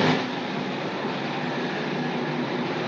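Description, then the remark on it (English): A train rumbles past, a loud, steady wash of rolling noise that holds at the same level throughout, with no one speaking over it. “I'll just wait for the train to go past.”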